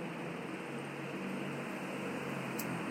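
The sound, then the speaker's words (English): An air conditioner that does not shut off runs with a steady, even whoosh and low hum, unchanging for the whole stretch, fairly quiet, with no voices. “Oh, yes, the damn air conditioner doesn't know how to shut off.”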